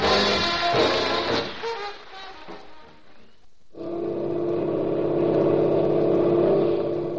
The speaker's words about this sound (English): Coming in from a high-speed trial run, a new Navy boat edges gracefully up to a mooring.